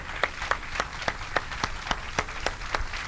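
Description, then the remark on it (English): Steady, evenly spaced hand claps, about eleven sharp slaps in quick rhythm, moderately loud, with no voices over them. “I saw them because they were in the church where I go to, and I would clap for that.”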